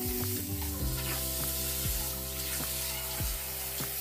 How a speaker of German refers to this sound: Wir machen die Fresse und den Hals mit heißem Wasser nass. Währenddessen flackt schon der Rasurpinsel in dem heißen Waschbecken, das gerade mit Wasser voll läuft. Natürlich der Naturhaar-Dachs-Pinsel.